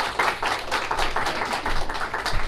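A church audience applauds the men present at a morning service, a dense, steady wash of many hands clapping at moderate volume for a few seconds, with no voices standing out.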